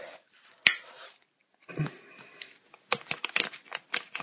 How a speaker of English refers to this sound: Run your hands across your soft skin as you listen to me opening up this baby oil.